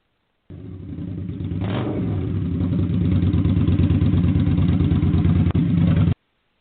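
A motorcycle with a sidecar and a passenger revs with a low, throaty rumble, swelling in loudness over the first seconds and then holding a steady, loud roar, with a brief dip just before it cuts off as it slows to a stop.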